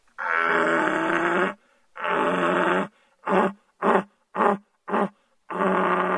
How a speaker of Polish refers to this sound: Natomiast jelenie byki, czując rujne łanie, podążając za chmarą, w początku rykowiska ryczą tęsknie. Natomiast jeżeli już znajdą łanie, wtedy pokazują swoją dominację, pokazują, kto króluje w tym lesie, kto panuje nad chmarą, czyli stadem jeleni.